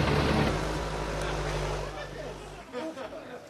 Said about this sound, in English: Okay, so we're not really getting on the truck. And we thought that since this is a nano building, we'd use a nano truck to actually take out the first piece of sod.